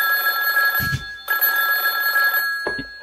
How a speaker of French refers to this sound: il y a le téléphone qui sonne.